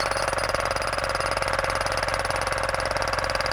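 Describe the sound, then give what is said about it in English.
Loud, steady jackhammer pounding as jackhammers break up a residential street in Amman, a rapid mechanical rattle that runs without pause, filling the whole stretch with harsh percussive noise over an engine drone. Nobody speaks. “Jackhammers make rubble of a residential street in Amman.”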